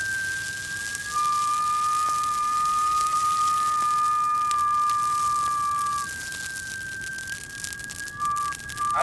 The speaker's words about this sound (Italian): Si raggiunge un certo sistema dove l'aria diventa benzina. La combustione è perfetta. Allora fischi.